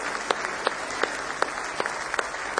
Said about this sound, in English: Somebody say praise the Lord. Now give the Lord a good hand clap of praise this morning.